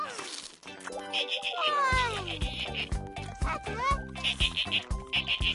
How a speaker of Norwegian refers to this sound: Hallo, delfin.